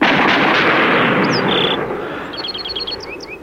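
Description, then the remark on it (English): A firing squad fires a single volley on a sandhill: a loud crack that rolls into a long, fading rumble, after which a series of high bird chirps comes through as the noise dies away. “Ready? Aim! Fire!”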